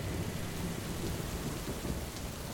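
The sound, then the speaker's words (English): Heavy rain pours down in a steady, dense roar on steep, winding hills near Beit Sahor at 8 o'clock at night in pitch darkness, with a deep low rumble of thunder rolling underneath throughout. No voices are heard. “Jalal Khumsia stepped out into the storm”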